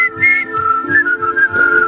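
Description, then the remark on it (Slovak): A person whistles a familiar melody, a clear, steady high-pitched tune with short notes gliding between pitches over a soft rhythmic background accompaniment. “A ja som sám prekvapený, že pesničky, ktoré si pískate najčastejšie, že sa tam objavilo to SS.”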